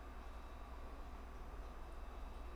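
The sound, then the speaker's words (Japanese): A train pulls away from platform 2 of a station, its low, steady rumble and faint mechanical hum continuing evenly without breaks, with no voices present. “2番線から電車が発車します。”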